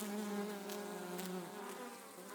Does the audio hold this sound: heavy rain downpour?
no